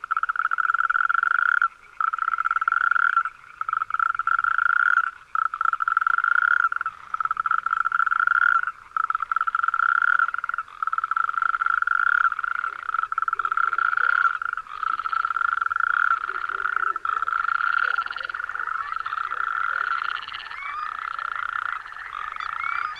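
Natterjack toads call in long, loud, rattling trills that run almost continuously, broken only by brief pauses, with a second toad joining. No one speaks.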